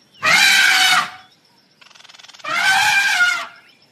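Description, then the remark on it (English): A young elephant trumpets twice, each blast loud, brassy and harsh, lasting under a second. A short pulsing rumble fills the gap between the two calls. “Young elephant laughed at him and gave a loud trumpet.”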